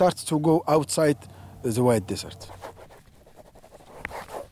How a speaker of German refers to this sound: nimmt seinen Stift und notiert etwas in seinen Block.